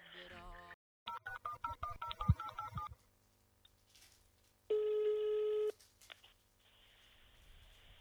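A quick run of touch-tone dialing beeps, then a pause and one long, steady electronic ringing tone on the line, fairly loud, with no one speaking.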